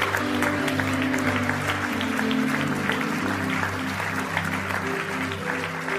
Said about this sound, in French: On peut donner une bonne main d'applaudissement au Seigneur.